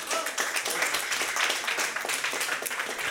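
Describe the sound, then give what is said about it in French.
An audience on Revolver Radio Show applauds the quiz contestants steadily, a dense wash of many hands clapping at once with no breaks, bright and fairly loud throughout. “Donc, je remercie les concurrents qu'on peut applaudir chaleureusement.”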